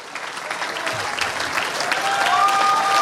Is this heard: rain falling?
no